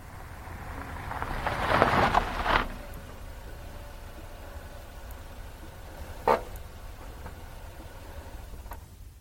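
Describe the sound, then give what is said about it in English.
A car engine rumbles, swelling briefly as the car pulls up to park at a storage warehouse, then settling into a steady idle, with a couple of short mechanical clunks later on. No one speaks. “We can park the car here.”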